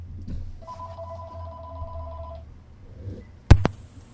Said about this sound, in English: Oh, I hear a phone ring.